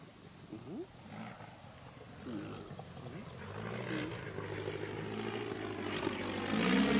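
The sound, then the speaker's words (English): A low, rough propeller-engine drone from a biplane gliding over a river and rising into the sky builds steadily over several seconds, growing louder and fuller toward the end, with no talking. “A biplane glides over the river and rises into the sky.”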